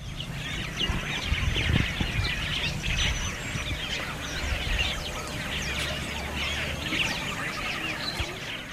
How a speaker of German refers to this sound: Lautes Vogelgezwitscher umgibt uns.